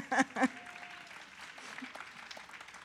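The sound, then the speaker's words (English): Audience applause at an author session being recorded for broadcast: two sharp, loud claps stand out at the start, followed by a steady, crackling wash of many hands clapping at a moderate level until the end. “Yeah, clap.”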